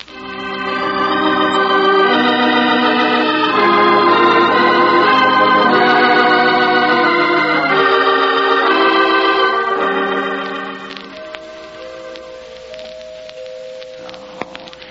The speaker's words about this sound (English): I dearly love the sound of those bells, but come on, somebody. Come on, answer the door.